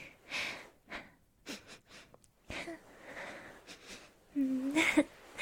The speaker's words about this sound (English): Sorry, your neck just smells really, really nice. Sorry, you don't mind if I, like, sniff your neck, hopefully.